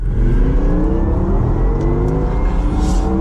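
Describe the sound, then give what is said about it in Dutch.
A Porsche Taycan Turbo GT electric sports car accelerates hard on the Monte Blanco circuit near Seville, its loud, steady rumble layered with rising whirring tones that climb gradually over a few seconds, with no voices. “test de Porsche Taycan Turbo GT”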